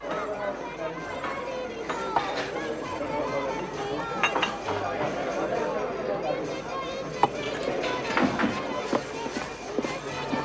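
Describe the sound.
Busy café bar ambience: a steady murmur of overlapping voices with scattered clinks of cups and dishes, and occasional brief clatters rising above the chatter.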